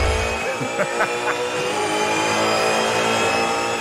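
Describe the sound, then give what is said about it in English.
Racing car engines roar from a TV broadcast of the Bathurst race around Mount Panorama, a steady, buzzing high-pitched drone with brief revving swells over dense, continuous noise. “4 days of hotted up cars driving around Mount Panorama.”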